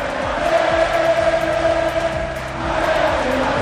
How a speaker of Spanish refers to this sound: Una grandísima celebración que ha llegado a contar con hasta 35.000 personas durante todo el recorrido de la Rúa, desde Castalia hasta terminar en la Plaza Mayor de la capital de La Plana. Allí han vitoreado a los jugadores.